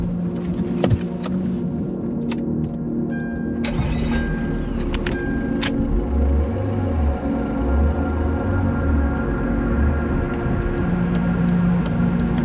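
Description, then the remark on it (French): A car driving, heard from inside: a steady low engine rumble throughout, with a few sharp clicks and a brief mechanical whir early on, then the engine note rising and falling. “Bon, allez, on prend la voiture, on y va.”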